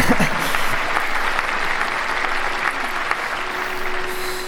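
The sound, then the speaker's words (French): An audience claps steadily for a few seconds, applauding a speech, a dense, sustained patter of many hands at an even, moderately loud level. “Sans plus attendre, donc déjà applaudissements pour ton discours, ça me touche.”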